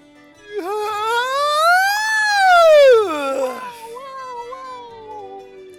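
A long, drawn-out voiced yawn from a stretch: a loud moaning tone that swells upward in pitch, sinks back down, then trails off into a softer, wavering murmur.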